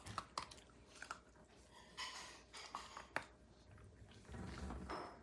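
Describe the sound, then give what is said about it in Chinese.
A female dog chewing food, with irregular wet crunches and clicks of teeth coming in quick bursts, a few sharper snaps standing out, and a low rustle toward the end. “瞧这狗，哎，吃。”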